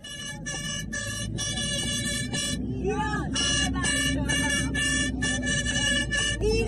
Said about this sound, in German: Das stimmliche Warm-up findet schon auf dem Weg zum Asadi-Stadion statt, im Auto oder besser gesagt im Kleinbus. Mit Tröten ausgestattet fährt diese Gruppe Frauen gemeinsam zum Stadion.